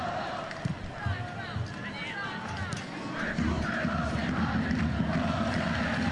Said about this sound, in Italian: Sale il coro Toro Toro dei tifosi Granata.